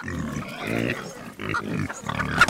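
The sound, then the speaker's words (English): Several free-range pigs on a farm in Western Kentucky grunt and snort in a steady series of throaty bursts as they root around in an open field, with a few higher squeals near the end and faint farmyard background. “Under an old oak tree, chickens peck for food while pigs root around and goats graze.”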